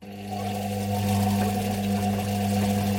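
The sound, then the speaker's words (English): A washing machine runs with a steady, droning motor hum and a continuous wash of churning noise, holding an even loudness throughout with no voices. “The sound of a washing machine.”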